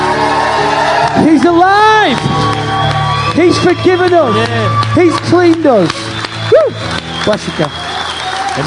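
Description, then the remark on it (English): A large crowd claps and cheers loudly in applause for Jesus, with whoops and excited shouts rising over sustained applause, while a voice calls out exclamations above the noise throughout. “Come on, as I close, let's give Jesus a massive King of Kings, Lord of Lords applause.”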